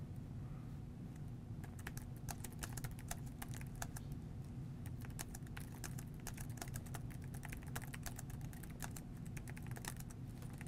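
Steady, rapid typing of an email in Outlook on a computer keyboard fills the whole stretch, a dense run of crisp key clicks over a low constant hum, with no one talking.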